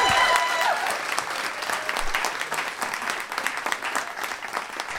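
A crowd claps steadily for several seconds, a dense, even patter of many hands at moderate loudness with no voices over it.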